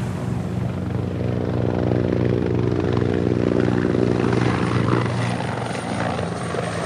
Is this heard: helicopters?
yes